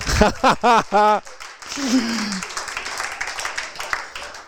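A few voiced whoops ring out, then a crowd breaks into steady, dense applause that keeps going at an even level to the end, with scattered cheers mixed in.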